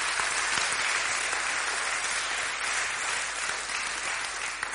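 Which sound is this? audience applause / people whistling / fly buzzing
audience applause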